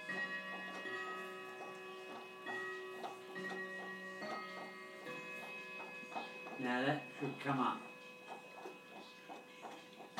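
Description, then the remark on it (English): Light, rhythmic tapping from a clock's chime mechanism set to the top of the hour, its chime hammer tapping but not coming up, steady, over a faint steady hum, with a person speaking briefly partway through. “Yeah, I can hear it tapping.”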